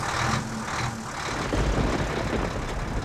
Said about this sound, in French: Sous l'orage qui déferle violemment sur l'Anse-au-Renard, le camion de déménagement Bédard et fils fonce à toute allure sur la route trempée.